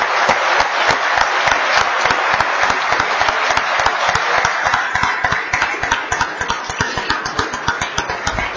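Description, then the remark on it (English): Members of a state House of Representatives applaud the family members of House members, steadily and fairly loudly for several seconds, the dense clapping thinning slightly into more distinct individual claps toward the end, with no voices over it. “I would ask all of us to please give them the proper applause and thanks that they need as well.”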